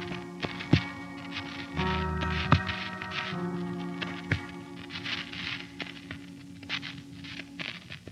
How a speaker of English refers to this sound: It's raining again. Pretty near New Year's, and it's raining again.